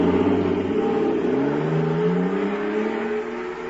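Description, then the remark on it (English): A fire control jet car engine, filled with super fuel, revs hard, its droning pitch climbing steadily as it accelerates, loud throughout before easing off slightly as it speeds away. No voices. “Listen to that fire control jet car go now.”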